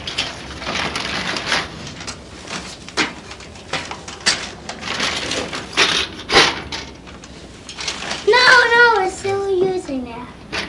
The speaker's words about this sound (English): Typewriter.